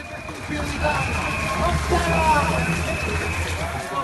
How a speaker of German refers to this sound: Start der 3. Etappe des Giro 2020 in Enna. Erst der Beifall der Fans bei der Durchfahrt des Pelotons.